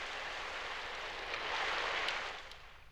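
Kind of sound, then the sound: nature, rain falling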